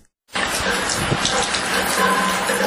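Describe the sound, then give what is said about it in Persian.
After a brief moment of silence, a light drizzle of rain sets in over Mazar-i-Sharif in Balkh, a steady, even patter and hiss that continues at a constant moderate level until the end. “نمنم صدای باران با خود مژده نوروز می آورد.”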